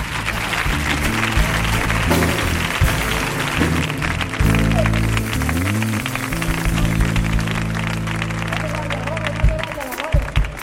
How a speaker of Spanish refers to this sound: Fuerte el aplauso para Antonio González y para el Amore.